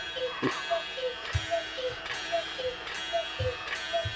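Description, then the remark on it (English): A cuckoo clock on the wall calls its two-note cuckoo over and over in a steady rhythm, moderately faint, with soft ticking and clunks from the mechanism underneath. “Ah, the clock on the wall is right out there.”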